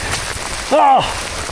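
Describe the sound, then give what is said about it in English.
Heavy rain pours down in a steady, dense roar that fills the whole moment, with a brief voiced exclamation rising over it midway. “I think it's all very well and good, you know, they're all very well and good and interesting, but what they really need is a presenter to be presenting it while he's escaping a torrential rain.”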